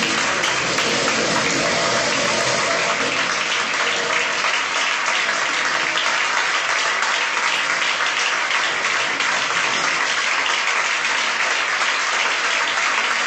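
Sustained, loud applause from a large crowd of Partido Popular (PP) members after Mariano Rajoy's farewell speech on leaving the party presidency, a dense steady clatter of many hands clapping continuously without pause, with no voices standing out.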